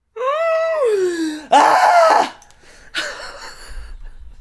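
A woman screams loudly, a long rising-and-falling wail followed by a harsher, raspier shriek, then a shorter strained cry after a brief pause.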